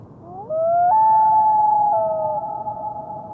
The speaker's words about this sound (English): we're going to hear is the wail, which is a long-distance communication vocalization given between a mated pair of birds when they're out of sight of one another and they're trying to establish contact. It's essentially, here I am, where are you?